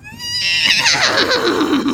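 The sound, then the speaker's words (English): A horse whinnies loudly, a single drawn-out neigh that starts high and shrill, then wavers and descends into a shuddering, fluttering tail over about two seconds. “No, not a horse. It's too big.”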